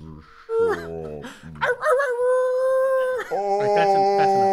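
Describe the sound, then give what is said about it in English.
Aaron Berg imitates coyote howls: a short yelp-like call, then long, wavering, sustained howls sliding in pitch, loud and continuous to the end. “And he does coyote noises.”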